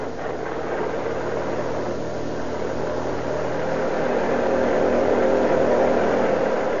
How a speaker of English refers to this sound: Quietly, the two occupants watch the infrequent cars that pass the spot. Here comes a car. Turn over your motor.